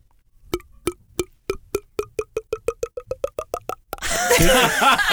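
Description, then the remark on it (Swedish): A voice mimics water glugging out of a plastic bottle: a long series of hollow mouth plops that quickens steadily, then a loud burst of noisy laughter takes over. “Jag har ju bra på att imitera när man häller vatten ur en PET-flaska.”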